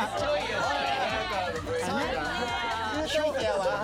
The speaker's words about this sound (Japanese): これはこれは ブーイングがすごいね。